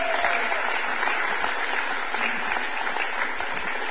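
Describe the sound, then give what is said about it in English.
A church audience claps their hands for tithes and offerings, producing a dense, sustained wash of applause from many hands that stays at an even, fairly loud level throughout, with no voices standing out. “Why don't you do something for me and clap your hands for tithes and offerings, please.”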